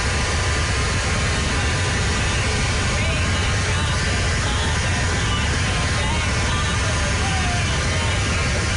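A loud, steady mechanical roar of a leaf blower, a dense rushing hiss like howling wind that holds constant for the full length with no breaks.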